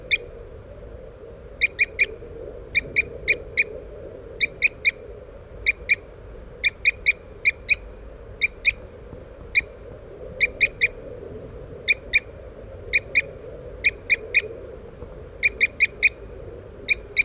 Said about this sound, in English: we're using birds 3-3, who's tooping in the background, and 4-3 as decoys.